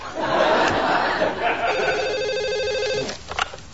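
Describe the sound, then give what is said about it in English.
A telephone rings with a steady electronic warble, clear, as a boss calls, over a background of murmuring voices and brief laughter that fade as the ring continues. “I'm sorry I rejected you phone call.”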